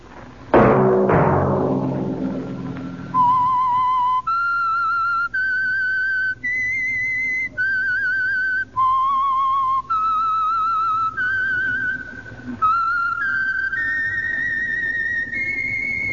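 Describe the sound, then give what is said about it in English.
A broad crash or chord at the start fades quickly, then a single clear whistle carries a slow, sustained melody of long held notes, loud, with no talking: the whistled signal theme of The Whistler radio program, brought by the Signal Oil Company. “Whistle be your signal for the Signal Oil program, The Whistler, each Sunday night at this same time.”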